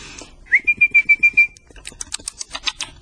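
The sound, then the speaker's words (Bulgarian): A parrot whistles a quick string of about six short, bright, steady notes, then falls silent as a burst of rapid clicking and tapping follows. “Стоп, стоп, стоп, стоп, стоп. Този папагал не вредява.”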